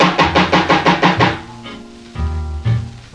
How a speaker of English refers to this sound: Knock one more time to see what's gonna happen here.